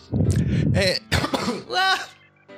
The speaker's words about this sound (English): I have a little coughing fit right there at the end.